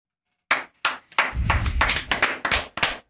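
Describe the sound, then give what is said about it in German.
Restrained applause from Bruchhagen and company, a small group: a couple of isolated claps, then scattered, uneven clapping that thickens briefly before trailing off, moderately loud, with no voices. “Gibt's nur verhaltenen Applaus von Bruchhagen und Co.”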